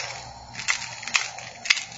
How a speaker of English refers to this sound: It was the silver coins rattling in the box.